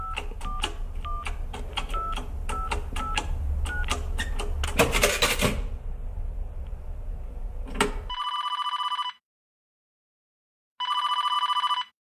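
A telephone rings twice in steady, buzzing bursts with a pause between, preceded by a run of mechanical clicks and a brief clatter, as a call is made from a telephone box in 1985 to a grocer's home in Kragenæs on Lolland, Denmark.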